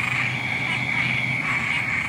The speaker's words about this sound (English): I think that's a southern toad. Southern toads for sure. Keep going. I'm pretty sure that's leopard frogs in here too.